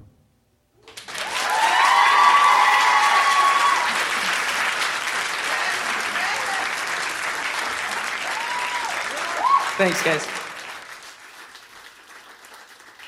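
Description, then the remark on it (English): A crowd at an event bursts into loud, sustained applause and whoops as a speaker walks out, with a high cheer rising early on; the clapping holds steady for several seconds before tapering off as a man speaks briefly. “Thanks for cheering really loud when I walked out.”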